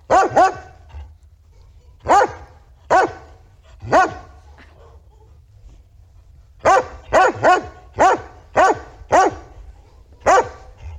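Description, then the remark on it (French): A dog of the rare Norwegian Lundehund breed, an old hunting breed from Norway, barks repeatedly: scattered single barks at first, then a quicker run of sharp barks near the end, with no one talking. “Bonjour, aujourd'hui je vais vous parler d'une race de chiens assez rare, le Lundehund, ou le chien norvégien de Macareux.”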